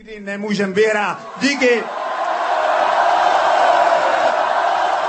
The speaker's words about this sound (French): Bref, on l'aura compris, et la foule et les joueurs ont célébré cette victoire tchèque dans la bonne humeur.